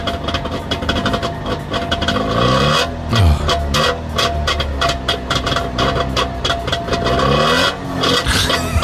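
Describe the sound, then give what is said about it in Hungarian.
A Trabant car engine runs loud, its buzzy note revving up and down in repeated swells, with no talking over it. “Így indulnátok, Anett, az étterembe így mennétek.”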